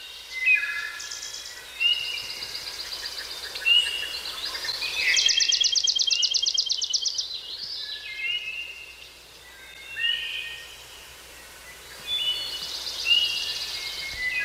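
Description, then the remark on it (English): Several birds sing and chirp in a lively outdoor chorus recorded in May, with repeated high trilling phrases and a brief louder rapid trill in the middle, set against quiet open-air ambience. “You know, that kind of sounds like spring is coming, not exactly like right now where their birds are going away a little bit.”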